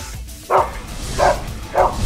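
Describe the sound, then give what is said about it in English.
A dog barks three times in an even rhythm, each bark short and fairly loud, with a low background hum filling the gaps between them. “I can't believe I'm a dog.”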